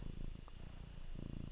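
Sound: cat purring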